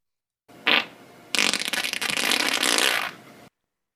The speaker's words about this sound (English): Fart or not? I'm gonna say yes. That's a human fart. That is correct. Yes, it is.